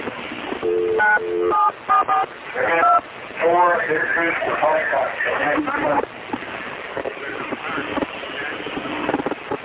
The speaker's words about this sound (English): But listen as David Koresh dials 911. You can hear the 911 tones on the telephone.